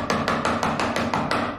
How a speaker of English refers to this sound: Aha! There's the culprit. He hammers the loose floorboard back in.